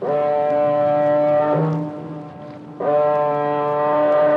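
A car ferry's foghorn sounds in fog in the English Channel: two long, loud, deep blasts, each a steady, buzzing low tone rich in overtones, separated by a brief lull filled with faint wind and water noise.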